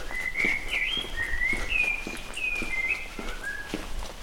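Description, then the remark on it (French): A common blackbird sings a flowing run of clear, fluting whistled phrases among granite stone houses and flowering trees in Brittany, France, while steady footsteps crunch along underneath throughout. “Ah oui, le merle.”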